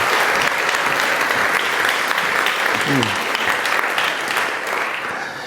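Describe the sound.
Sustained applause from an audience, a dense steady clatter of many hands clapping that holds loud throughout and eases slightly at the end, with a brief voice faintly audible in the middle.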